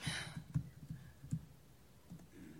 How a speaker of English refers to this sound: Yeah, typing live in front of an audience is really great. Always good. Good to be on the fly.